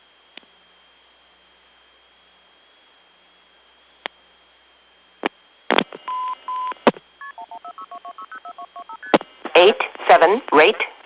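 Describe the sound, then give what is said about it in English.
A faint steady line tone with scattered clicks, then a quick, evenly paced run of short two-note dialing tones as heard when a telephone operator places the call, followed by a brief burst of a voice speaking. “Now that, including the tones, is what you would hear if you had the operator do it.”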